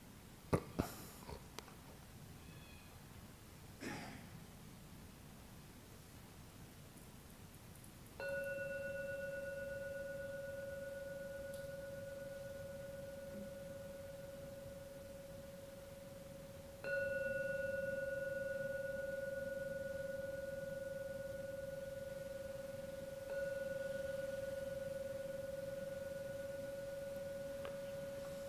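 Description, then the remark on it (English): A gong is struck three times at slow, spaced intervals, each stroke ringing out with a steady, humming mid-pitched tone that sustains and slowly fades until the next strike. “I'll now ring the gong 3 times.”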